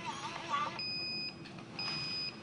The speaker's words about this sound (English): You hear it do its thing, and then it beeped, and the label has come out.